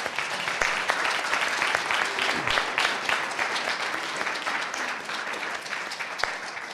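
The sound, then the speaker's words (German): Steady, dense applause from an audience at a church service thanking the singers, many hands clapping at once in a continuous crackling roar that holds an even loudness for several seconds. “Und ich finde, wir könnten uns mal bedanken mit einem kräftigen Applaus.”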